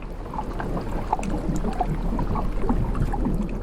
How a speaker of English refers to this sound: And then out there I was able to record this wonderful sort of rhythm of the water backwards and forwards over the hydrophones.